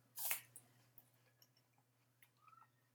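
Someone bites into a Braeburn apple with one loud, crisp crunch, followed by quieter, scattered chewing clicks over a faint steady hum.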